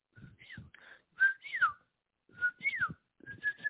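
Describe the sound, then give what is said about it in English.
A person whistles a bird-like call: short warbling phrases with quick rising and falling swoops, a brief pause, then the call is repeated, with no talking. “You know, I did this instinctually of, for you Mexicans out there listening, you know, whenever I go to a forest at night to do ceremonies, either with myself or a group, I always whistle.”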